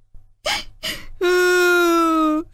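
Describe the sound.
A voice imitates a crying toad's sobbing: two sharp, breathy gasping sobs, then a long, steady, mid-pitched wailing cry held for over a second before cutting off.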